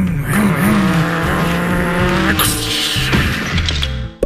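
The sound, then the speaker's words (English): Loud racing car engines roar and whine over squealing, skidding tires, broken by a couple of sudden harsh bursts like collisions, with no talking. “Well, let's race our cars into each other.”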